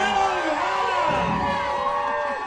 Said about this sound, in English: And we're cheering because we wonder what's going to happen next.